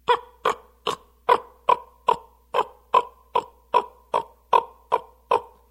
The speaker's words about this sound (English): That incessant, repeated, closely coupled notes is the difference between a raven chasing another raven out of its territory and an eagle being chased out of that same territory.